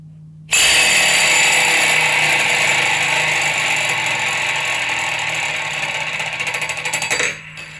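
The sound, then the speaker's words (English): A thin ring spinning rapidly around a door handle, its slightly wider inner ring moving and orbiting the handle, makes a steady, loud metallic whir and rattle that starts abruptly, holds for about seven seconds, then stutters and stops. No one speaks. “So that was spinning it around the door handle so fast that the inner ring is actually moving as well as it's spinning.”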